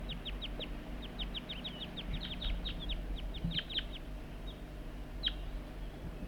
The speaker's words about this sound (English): And that's bird 4-3, and the wild birds are right nearby. I heard the juvenile giving begging calls right near the net site somewhere. The wild birds responding to loud calls of bird 4-3.